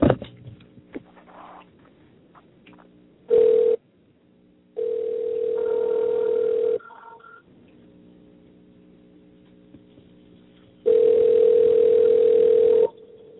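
telephone call ringing out

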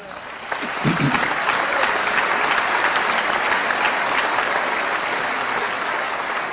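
audience applause

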